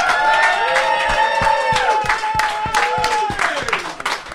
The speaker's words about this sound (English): Come up to the stage, lady. Round of applause for the lady.